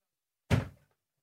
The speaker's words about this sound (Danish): Og nu væltede du et glas vand.